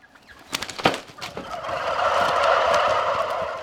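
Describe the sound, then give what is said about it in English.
A loud chorus of Noel Thompson's turkeys gobbling in a barn in central Iowa, with sharp rapid gobbles at first that swell into a dense, continuous warbling din from many birds. “To visit Noel Thompson's turkeys in central Iowa, I have to put on a pair of huge paper coveralls, add a hairnet, and disinfect my boots.”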